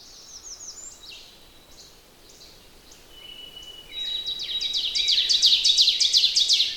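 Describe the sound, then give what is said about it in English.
An ovenbird's song in a forest, heard from a woodland trail: rapid, high two-note 'teacher' phrases repeated in a rising series, growing steadily louder toward the end, with fainter songs of other birds all around and a thin whistle in the background. “There's songs all around me, but the teacher, teacher, teacher, teacher is the oven bird.”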